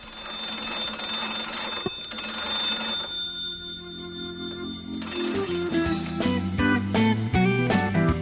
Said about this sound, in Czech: Ovo je zvuk 2 najstarija induktorska telefona u Srbiji.